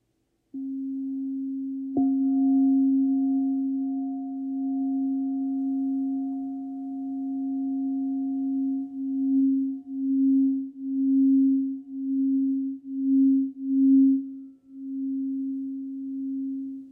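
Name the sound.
crystal singing bowl ringing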